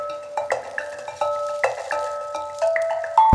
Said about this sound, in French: Les cloches de fin de récréation qui ont sonné, on rentre dans le vif du sujet.